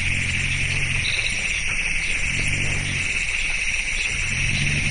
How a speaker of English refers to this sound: Those low rumbles are made by elephants. Sped up, they rise in pitch, but it turns out that elephants mostly talk among themselves below levels we can hear.